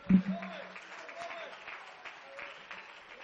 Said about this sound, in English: I wish somebody would clap your hands today.